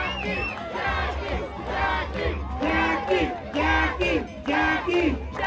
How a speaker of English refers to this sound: The crowd in front of us is cheering hard for Jackie nearly the whole time.